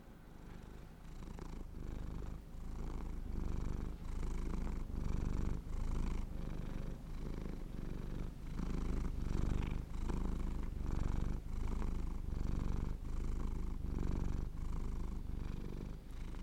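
A cat purrs steadily, a low rumbling drone pulsing in regular cycles with each breath in and out, continuous and fairly loud with no voices.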